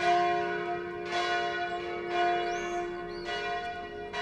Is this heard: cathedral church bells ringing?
yes